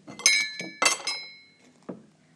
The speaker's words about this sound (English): I can't go to the ball because I've got all the dishes to do.